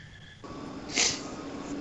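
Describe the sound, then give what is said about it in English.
Oddside Ales Caged Wisdom beer from a 12-ounce can pours into a glass: a steady, fizzy gurgle starts after a brief quiet moment, swells into a short, sharper hiss midway, then settles back into a soft, continuous pour. No one speaks. “All right, so I'm pouring this in.”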